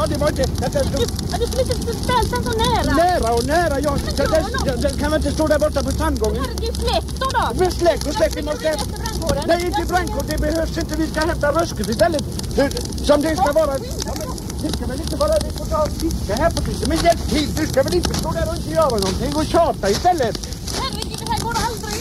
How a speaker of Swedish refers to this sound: Ja, då ska jag tända en tändsticka på detta viset. Så där, och kasta i elden. Så! Herregud, titta nu här. Det brinner överallt.